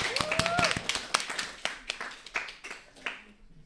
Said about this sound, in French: On les applaudit bien fort, nos candidats.